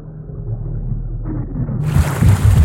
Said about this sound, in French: L'aspirateur est bouché. Le moteur s'emballe. Boum! Il explose.